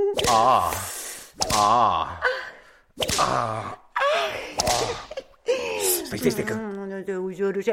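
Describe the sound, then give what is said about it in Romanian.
Five sharp whip lashes land about a second apart, each followed at once by a loud, strained groan or cry of pain. Heavy breathing and gasps fill the gaps. “Hai, dă cu biciul ăla odată că mai poate.”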